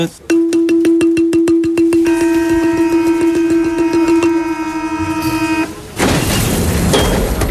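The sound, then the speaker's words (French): A balafon imitates a metro door-closing chime, rapid repeated strikes rolling into a sustained, bright ringing note that holds for several seconds before a burst of broad noise takes over. “Et je me demandais, est-ce que vous pouvez me faire, avec un de ces balafons, juste la note, vous savez, des portes du métro qui se ferment?”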